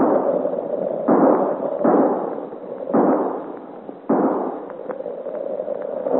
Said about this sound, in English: What is this shooting, Master Taylor? Oh, confound the man. Where is he? Between shots, shouting, and thunder, the man can get no rest.